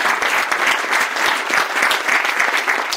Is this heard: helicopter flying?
no